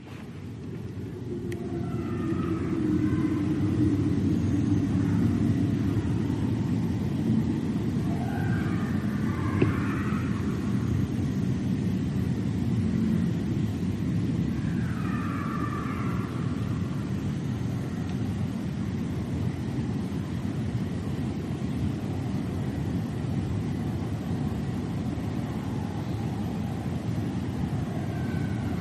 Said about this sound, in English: I picked up this howling, which I don't know what it is at all. I assumed it was coyotes or wolves or maybe a mountain lion, but maybe you can tell what it is, because I can't. Listen to this. And here we go. Those are either coyotes or wolves.